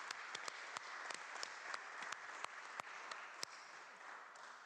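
A round of applause from a crowd, a steady wash of many hands clapping with a few sharper individual claps popping out irregularly throughout, moderately loud and sustained for the whole stretch.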